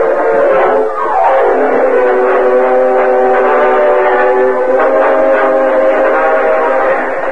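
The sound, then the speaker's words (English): A loud train horn blares steadily for several seconds, its pitch sliding down at the start, over the rumble of a fast-moving train with empty passenger cars, a short distance from Modoc City. “Meanwhile, a short distance from Modoc City, Cliff Gullison hurried through the empty passenger cars and joined Gopher in the engine cab of the speeding train.”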